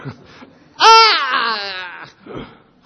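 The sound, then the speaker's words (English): A voice imitates the dying scream of the woman killed by the baby Krishna in the story: one loud, drawn-out wail lasting about a second, starting high and sliding downward in pitch, framed by brief quiet vocal sounds before and after. “And she dies screaming, leave me!”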